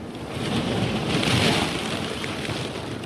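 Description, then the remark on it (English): An icebreaker grinds through thick Arctic sea ice on a bright spring day, backing and ramming every 100 feet, building-sized slabs folding and crashing on both sides of the hull, in a continuous, loud rumbling roar of crushing and churning that swells slightly midway, with no voices. “Building-sized slabs of ice fold and crash on both sides of the hull.”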